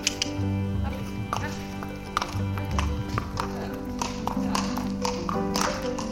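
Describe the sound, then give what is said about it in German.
Hooves clip-clop on the hard surface of a riding stable's large courtyard near Cologne as several horses walk their rounds or are led out for a ride, steady irregular clops with a low murmur of voices and ambient hum beneath. “Einige Pferde drehen auf dem großen Innenhof ihre Runde oder werden zu einem Ritt hinausgeführt.”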